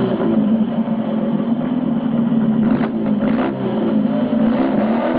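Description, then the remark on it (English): A motorcycle engine drones steadily as the rider rides into a ring past a ramp and trucks, its low, buzzing tone rising and falling slightly in a few revs, loud and continuous with no voices. “He rides into the ring, past the ramp and trucks, then rides around the other side and out.”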